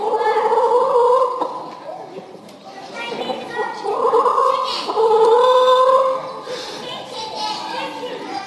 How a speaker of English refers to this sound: That's right, it was chickens, yes.